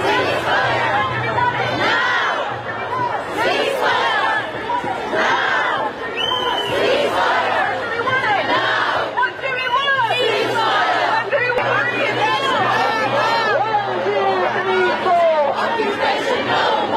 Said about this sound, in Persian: برای نمونه می‌توان به تجمع صدها تن از مخالفان ضد جنگ در نیویورک اشاره کرد یا در لندن که روز شنبه هزاران تن برای پایان جنگ به خیابان آمدند.